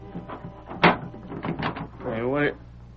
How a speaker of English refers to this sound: Hey, what are you closing the door for?